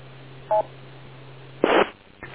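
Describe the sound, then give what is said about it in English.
A short two-tone electronic beep sounds once over a narrow telephone line with a steady low hum beneath it, followed about a second later by a brief burst of harsh, crackly line noise. “N2EO, wait for the beep.”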